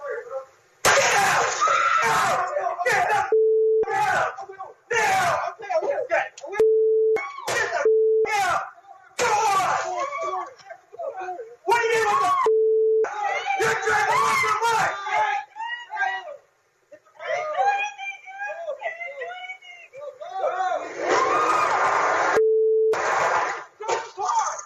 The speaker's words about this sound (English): Okay, I love how those guys are just screaming, or it's a guy and a girl, but they're just screaming like little girls.